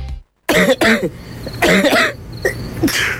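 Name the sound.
coughing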